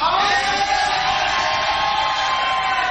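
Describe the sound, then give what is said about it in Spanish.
A studio audience at a program shouts and yells all at once on a Friday, a loud, dense roar that holds steady without pause for the whole few seconds. “Hoy es viernes, es un día que las personas que asisten a este programa aprovechan para gritar.”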